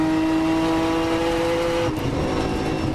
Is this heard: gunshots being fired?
no